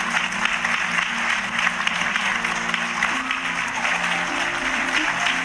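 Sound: clapping applause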